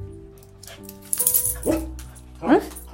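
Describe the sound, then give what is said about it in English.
A dog lets out two short, sharp barks about a second apart, with a faint jingling rattle just before them over a quiet indoor background. “You got something to say, Franks?”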